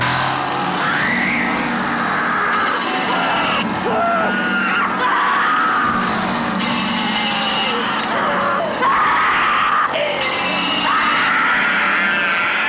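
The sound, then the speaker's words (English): A man screams in terror in a film scene, the character Franklin: long ragged cries rising and breaking repeatedly for several seconds, loud, over a constant roaring engine-like drone and chaotic background noise. “But here is Franklin screaming and Sally.”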